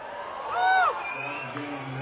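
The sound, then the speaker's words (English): A crowd cheers with a steady roar of voices, and one loud whoop rises and falls in the middle above the general din. “I want to hear some cheering out there and excitement.”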